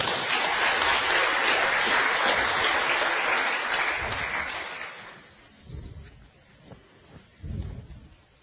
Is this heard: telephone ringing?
no